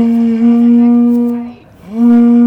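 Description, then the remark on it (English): A person imitates a wolf with a long, steady, mid-pitched howl that breaks briefly, then swoops upward into a second sustained howl, as part of a neighbourhood howl on a residential street during the pandemic. The voice is loud and carries no other sounds. “A lot of people say she maybe has the best howl on the street, but I think I maybe do.”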